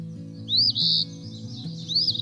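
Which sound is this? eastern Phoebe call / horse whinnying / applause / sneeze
eastern Phoebe call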